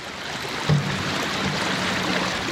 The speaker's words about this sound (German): es ist natürlich kein Motorlärm, nichts. Und man hört dann die Geräusche vom Wasser